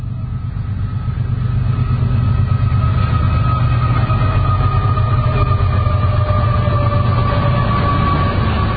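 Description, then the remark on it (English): A freight train with two locomotives, carrying a lot of lumber, rumbles past close by near a river in a loud, steady roar, with heavy low-end clatter of wheels and a sustained high metallic squeal riding over it throughout. “Another train coming.”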